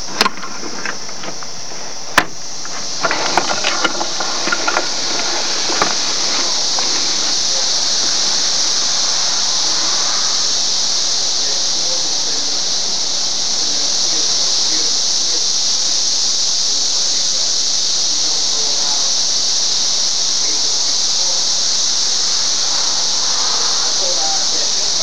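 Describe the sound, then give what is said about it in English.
A dense, steady chorus of singing cicadas outdoors on a bright sunny day with clear blue sky in 2004, around the mid-70s, heard through an opened upstairs window, a continuous high-pitched shrill that stays loud and unbroken throughout, with a few faint knocks and handling noises near the start. “It sounds like there are fewer of them, but they're singing their little hearts out, or abdomens, or what have you.”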